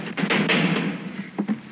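Heavy knocks from a door knocker, a couple of quick raps, a short pause, then two more, fairly loud with a ringing, resonant tail and no voices.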